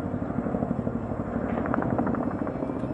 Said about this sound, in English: Just over 5 weeks after President Biden insisted it would never happen, helicopters were evacuating staff from the U.S. embassy in Kabul, and President Biden was preparing to address the nation.